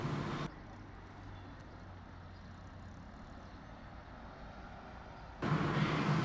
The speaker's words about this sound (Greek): και από εκεί και πέρα απλή κλασική ήχη, όπως είναι η κίνηση από τα αυτοκίνητα στους δρόμους, τα μηχανάκια, μηχανές, και το συντριβάνι, το οποίο έχει να κάνει πάλι με το ευρύ στοιχείο, το οποίο βρίσκεται και αυτό κοντά στο κέντρο της πόλης.